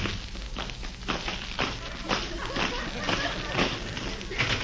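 A very thin rubber bag filled with small pebbles is shaken and held up to a microphone as an explosion sound effect, making a loud, sustained rumbling roar with repeated rattling surges, like a continuous explosion, lasting several seconds with no talking.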